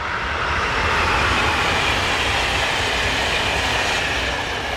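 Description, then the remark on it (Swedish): A train pulls away with a steady, loud rumbling roar, a continuous wash of wheel and engine noise, with no voices. “Ja, några saker som man kan göra för miljön är ju till exempel att åka tåg när man ska ut och resa istället för att flyga.”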